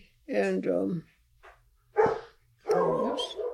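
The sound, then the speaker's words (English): A dog barks at something outside in the dark in three loud bursts: a longer, drawn-out volley first, then a short sharp bark, then another extended round of barking. “My dog, Izzy, is barking at something.”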